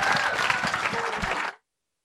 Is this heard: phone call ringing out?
no